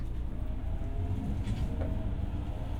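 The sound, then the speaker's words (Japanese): Steady low rumble of a moving, packed-full commuter train heard from inside the carriage, a constant droning hum with faint rattles and no one speaking. “満員電車ってすごいな。”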